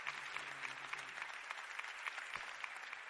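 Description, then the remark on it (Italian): An audience claps steadily for a few seconds, a dense, even patter of many hands at moderate loudness, with no voices standing out. “Il meritato applauso.”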